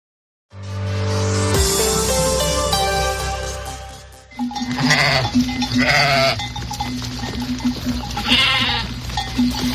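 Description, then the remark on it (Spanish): A sustained tonal chord gives way to a small flock of sheep bleating, several wavering, quivering cries overlapping over a steady background hum. “Pues en la tarde nos vamos, sí, con las ovejas.”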